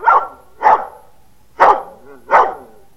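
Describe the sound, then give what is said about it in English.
A dog named King barks four times, loud, in two pairs with a brief pause between them, counting out the answer to how many states voted Democratic in 1936. No one talks over the barks. “I'm glad he did it. I was going to bark there myself.”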